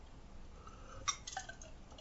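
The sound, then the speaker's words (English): A quiet sip from a tall, cool glass of water: a soft, bright clink of glass followed by a few brief, faint wet slurping and swallowing sounds over a low hiss, with no talking. “I have this tall, cool glass of water. And you kneel there, staring at the floor, licking your lips as I take a sip.”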